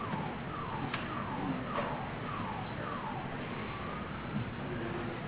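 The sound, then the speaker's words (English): A car alarm wails outside, cycling through repeated falling tones at a steady pace. It sounds muffled over a constant background hiss. “Is that mine or yours? Somebody's just going off out there. I check it. I don't have my keys in my pocket, so it can't be mine.”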